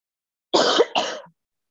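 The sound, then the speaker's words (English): Two harsh coughs in quick succession, each a short rasping burst, with silence around them and no talking. “Got a bad cough.”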